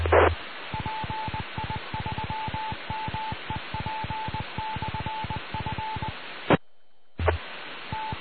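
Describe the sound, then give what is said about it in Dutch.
A burst of rapid electronic beeps from an amateur radio repeater over a steady hiss of radio static, like a string of short dial tones, ending abruptly with a click and brief silence before the noise returns. “Dat was ook de hele riddel weer van de repeater.”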